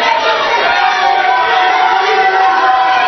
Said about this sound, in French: Je ne sais pas pourquoi vous applaudissez. Je n'ai rien dit.